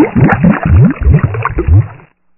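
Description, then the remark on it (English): Sugar syrup made of sugar, syrup and water boils hard in a pan at 260 degrees without stirring, a steady rush of thick gurgling and popping bubbles that runs for about two seconds before cutting off abruptly. “Bring it up to a hard boil, 260 degrees without stirring it.”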